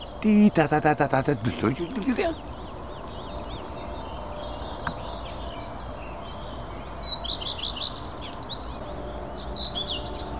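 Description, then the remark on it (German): A songbird sings a loud burst of rapid, evenly repeated notes, then switches to softer, varied high chirping phrases that recur intermittently over a steady background hiss. “Der hat zwei Motive hier. Singt noch ein anderes Motiv hinten dran.”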